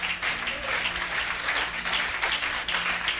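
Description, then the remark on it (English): An audience at a talk applauds steadily, joining a lady who started clapping, many hands clapping in a dense, continuous patter at an even loudness for the whole stretch, with no voices over it. “Support her in clapping.”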